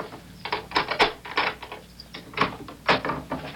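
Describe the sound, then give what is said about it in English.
An apartment door being unlocked and opened: a run of sharp metallic clicks and rattles from a key and latch, arriving in uneven bursts with short pauses, moderately loud with no voices. “Here, hold the groceries while I open the door.”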